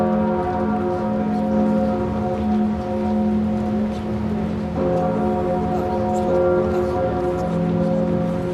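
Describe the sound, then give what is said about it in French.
The bells of Notre-Dame cathedral ring out loudly and steadily for the cathedral's reopening, their overlapping tones merging into a dense, sustained resonant hum with a wash of noise beneath, and no voices. “Ce sont les cloches de Notre-Dame qui se font entendre pour la réouverture de la cathédrale.”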